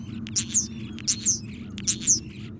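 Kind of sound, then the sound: bird, european starling calls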